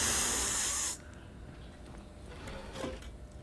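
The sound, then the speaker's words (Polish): A breathy, airy hiss from someone trying to learn to whistle, steady for about a second with no clear tone, then dropping to quieter shuffling sounds. “No przecież mówię, że próbuję nauczyć się gwizdać.”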